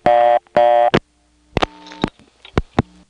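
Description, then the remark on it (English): A telephone reorder tone put on by a touchtone converter after an incomplete office code was dialed: two buzzy, steady tone bursts in quick succession, followed by scattered clicks and line thumps on an otherwise quiet telephone line. Nobody speaks. “This is the touchtone converter putting on this reorder.”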